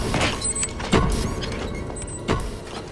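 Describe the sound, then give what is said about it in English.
Elevator doors slide open with a steady mechanical whir, broken by two sharp clunks and faint high squeaks, with no voices. “The lift doors open, and he stands, shrouded in cigar smoke.”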